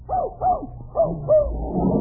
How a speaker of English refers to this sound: Hoo, hoo, hoo, hoo. Ah, just as I thought, you do have a dog in here. He's in that car.